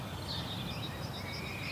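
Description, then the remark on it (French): Faint birdsong drifts from far off across a large square set with arbors in the early afternoon, still cool with the sun coming out, thin high chirps and warbles layered over a steady low outdoor rumble, with no voices nearby. “C'est le début de l'après-midi et on entend des oiseaux au loin.”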